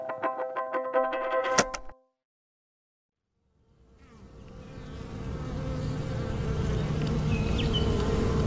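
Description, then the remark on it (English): After a brief tonal burst and a short silence, a dense swarm of honeybees fades in, their overlapping buzzing building into a steady, continuous drone with no voices. “Imagine you are a bee, a honeybee, and every morning you wake up in the greatest place on Earth.”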